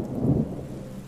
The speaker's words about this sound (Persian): دم غروب بود که از اون سوراخ اومدم بالا. بارونم یه ضرب داشت می اومد و هوا سرد.